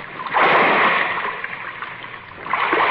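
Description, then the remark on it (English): A heavy splash as someone drops down into waist-deep water in the dark, followed by steady sloshing and churning, then another surge of splashing near the end. Fairly loud, with no voices. “Water's not so deep. It's only up to my waist.”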